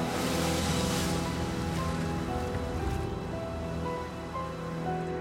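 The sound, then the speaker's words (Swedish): Ocean waves of a raging sea roar steadily and continuously, a dense wash of surf noise holding at a fairly even loudness throughout, with no voices. “Då upphörde havet att rasa.”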